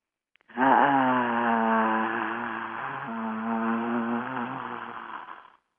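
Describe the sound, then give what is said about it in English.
In a sound exercise, a group of voices holds one long, low, earthy, guttural tone together, made into the base of the spine, rich and buzzy with a steady drone lasting about five seconds, swelling slightly before fading out, with no talking. “Make the sound red, and the sound is very, very earthy, guttural.”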